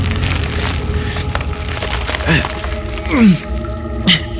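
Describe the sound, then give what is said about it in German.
A lighter falls from a hand and hits the ground, giving a few sharp, clattering knocks spread over several seconds above a low, steady background rumble. “Das Feuerzeug! Was hast du gemacht? Es ist mir aus der Hand gefallen.”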